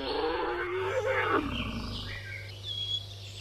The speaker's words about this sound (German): Die Bioakustikerin möchte dokumentieren, wie sich die Lautäußerungen der Wuppertaler möglicherweise an die der drei Wiener Elefanten angleichen werden, sobald sie sich die Anlage teilen und eine gemeinsame Gruppe bilden.